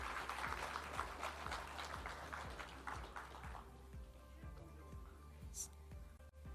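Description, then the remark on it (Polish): An audience at an awards ceremony applauds the team from Zespół Szkół Zawodowych in Wysokie Mazowieckie with dense, crackling clapping that stays full for about three seconds, then thins out and fades. A steady, rhythmic low thumping runs underneath throughout. “I wielkie brawa.”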